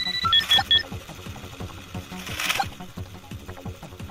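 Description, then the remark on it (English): A short electronic hourly time-announcement chime of three quick, high-pitched beeps marks 12 o'clock near the start, over a busy, clattering background of game noise that keeps going afterward. “It's 12 o'clock. There's your time announcement.”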